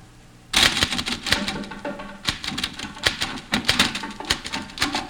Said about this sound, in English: There are drums in the typewriter. I think, I don't know. There are drums in the typewriter. There are drums in this typewriter.